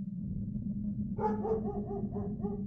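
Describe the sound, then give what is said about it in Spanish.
A dog barks repeatedly in a quick series of sharp yaps over a steady low rumble as it runs away chasing something, the barks sounding somewhat distant and fading as it moves off. “el perro corrió detrás de lo que haya sido eso. Lo último que escuchamos fue cómo se alejaba ladrando.”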